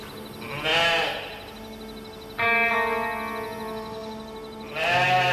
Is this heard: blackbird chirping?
no